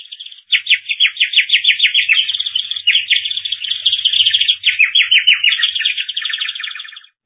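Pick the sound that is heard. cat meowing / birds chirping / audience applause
birds chirping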